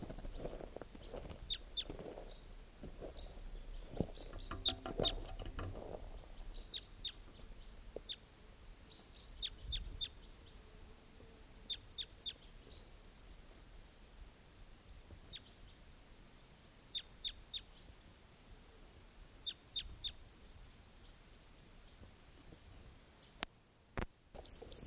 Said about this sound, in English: That same bird. Stop. Where's that bird? That bird was just collected and he'll be number 650.